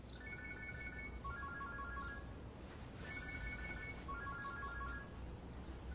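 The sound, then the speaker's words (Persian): A mobile phone left behind in a room rings with a repeating electronic melody, faint and slightly muffled as if from another room, its short tonal phrases recurring over a steady background hiss with no one speaking. “خانم به نظر میرسه که برادرتون گوشیشو توی اتاق جا گذاشته.”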